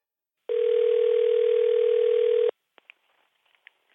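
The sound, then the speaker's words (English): A steady telephone dial tone hums for about two seconds, then cuts off, followed by a few faint clicks and brief beeps as a call is placed. “And for that, I need to get someone else on the phone.”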